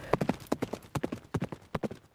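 Horse hooves clip-clop in a steady, brisk rhythm, each hoofbeat a sharp knock, repeating in quick groups of two and three throughout without any voices, as a servant sets out on horseback toward Madurai.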